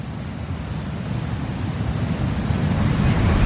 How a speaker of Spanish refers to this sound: El sonido del mar eran rugidos que nos perseguían.